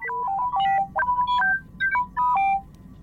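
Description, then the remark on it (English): The droid T3-M4 chatters in quick electronic beeps and bloops, a run of short tonal chirps hopping up and down in pitch, with a few brief pauses and no voices. “Of course, T3M4 will have not a whole lot of nothing to say, but let's hear those beep and bloops.”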